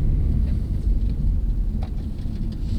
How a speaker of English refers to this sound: We climb back in the car, and Worth Robbins heads down a bumpy dirt road